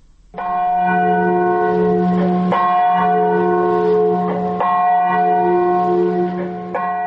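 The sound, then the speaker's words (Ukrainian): The deep bell of the Katyn memorial near Smolensk tolls slowly and loudly, with about four strikes, each ringing out in a long, sustained hum of layered overtones that overlaps the next. No voices are heard. “Звон Катынскага мемарыялу гучыць у памяць 4 тысяч польскіх віцэраў і іншых прадстаўнікоў даваеннай эліты краіны, закадаваных НКВД ў 40-м годзе ў лесе каля Смаленска.”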